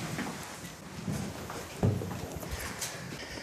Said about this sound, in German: Und da gibt es schon die nächste Tür. So. Da wird uns ein Schlüssel gereicht. Dankeschön. Die Tür ist sehr gut verschlossen. So, und jetzt kommen wir durch.